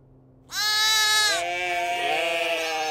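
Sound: sheep bleating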